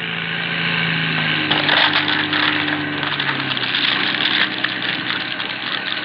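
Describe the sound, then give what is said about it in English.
Seaplane motors drone steadily with low humming tones as the seaplane gathers speed on a river and begins rising off the surface, then a harsh, rough grinding noise breaks in and rattles on over the engine roar until the end. No voices are heard. “Noyce, starts the motors and the seaplane gathers speed. It is just rising off the surface when there comes a cruel, grinding sound.”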